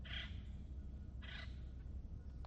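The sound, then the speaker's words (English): Two harsh calls from a little crow, spaced about a second apart, ring out over a steady low rumble of outdoor background noise, with no one talking. “Like that little crow is calling out, we have so much to be grateful for.”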